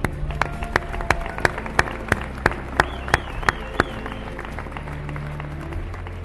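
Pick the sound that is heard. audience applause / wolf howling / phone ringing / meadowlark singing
audience applause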